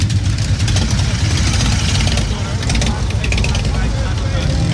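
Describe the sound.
The engine of a yellow V9 Roamer motorcycle idles steadily, a low, continuous rumble that holds an even loudness throughout, with voices talking over it.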